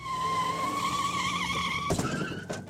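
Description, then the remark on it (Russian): A car's tires squeal in a long, loud, wavering skid for nearly two seconds as American engineer John Hedrick loses control in 1953, distracted by a deer crossing the road. A sudden crunching impact breaks it off as the car goes into a roadside ditch, followed by a brief second jolt. No voices. “В 1953 году американский инженер Джон Хедрик не справился с управлением, отвлекшись на оленя, перебегавшего дорогу, и его автомобиль улетел в кювет.”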